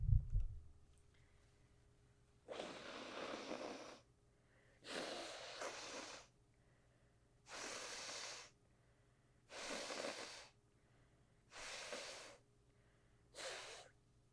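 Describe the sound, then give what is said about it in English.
Six forceful, breathy nose blows in a steady sequence as a person blows their nose very heavily with the mic moved away from the face, each a rough hissing burst lasting about a second, separated by short pauses, with no talking. “For those of you who are audio listeners, I'm moving the mic away from my face and I'm about to blow my nose very heavy.”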